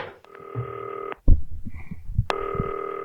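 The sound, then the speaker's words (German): A telephone rings through the earpiece of a green telephone used via FaceTime as a number is dialed: two long, steady buzzing ring tones separated by a pause filled with soft thumps and rustling as the handset is laid aside. “Es klingelt.”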